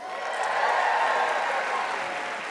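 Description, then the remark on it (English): A crowd at a Modern Love Live event in New York applauds the host, Ophira Eisenberg, a dense wash of many hands clapping at an even, sustained loudness for the whole stretch, with no voices standing out. “Thank you for the clap, and it's fine.”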